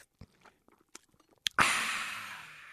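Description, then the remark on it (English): Sipping a Coke: a few small wet clicks and slurps, then a sharp burst of loud fizzing carbonation that hisses steadily and slowly fades, with no talking. “I know you like yourself a Coke. You drink 9 or 10 every morning. No shame. No shame. No shame. Go ahead. Take a sip.”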